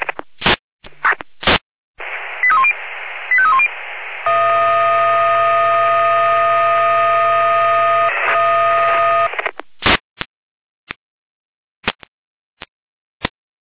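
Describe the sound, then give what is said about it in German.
Fire brigade radio alerting tones calling Dornburg station 1 to a garden shed fire in Dornburg: squelch clicks, a quick sequence of short pitched beeps, then a loud steady chord-like tone held about five seconds, ending in scattered sharp radio clicks. “Lena mit Alarmierung.”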